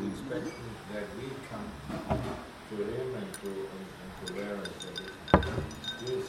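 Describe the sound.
Ice clinks against a pina colada glass in a few light, scattered taps, with one sharper knock near the end, while people talk over it.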